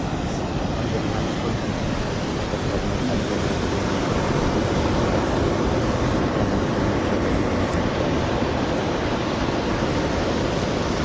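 Ocean waves wash ashore during a ritual offering, carrying away white flowers wrapped in banana leaves, in a steady, continuous roar of surf, a broad hissing rumble that holds an even loudness throughout with no clear breaks between waves and no voices.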